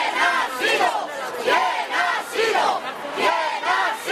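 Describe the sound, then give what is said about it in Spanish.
A large protest crowd in Spain, demonstrating over attacks that killed 199 people, shouts in unison, loud rhythmic chanted bursts of condemnation repeating about once every second, with many voices blending into a dense, steady roar between the cries. “Entre los gritos de condena, una pregunta.”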